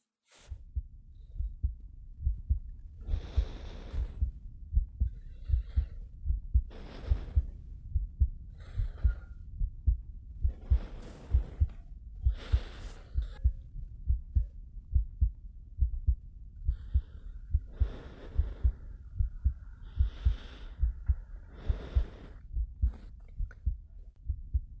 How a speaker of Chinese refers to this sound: 你听，心跳是不会骗人的。